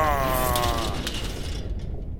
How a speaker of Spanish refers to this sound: ¿Así tienen que abrir esta puerta cada vez que alguien entra y sale? No, los soldados usaban un traductor en tiempo real para salir y entrar. Pero se rompió.